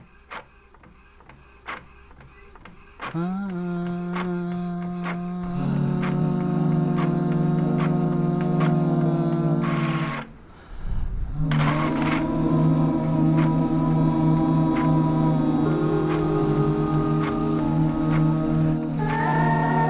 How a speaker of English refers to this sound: This is my printer.